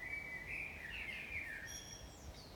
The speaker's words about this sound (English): I hope these birds don't drown me out, since I can't be too loud.